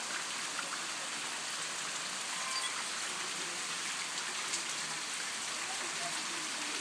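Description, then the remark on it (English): Water streams down a flight of steps in a steady, unbroken hiss, an even bright rushing wash with no pauses and no voices. “Right, well, for the video here, this is the water coming down the stairs that we walked down. You might be able to hear it better than see it, I suppose, but...”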